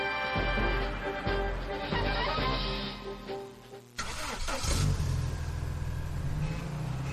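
A car engine runs loud with a droning, harmonic tone, then surges abruptly into a rougher, louder roar as it revs and accelerates. No voices are heard.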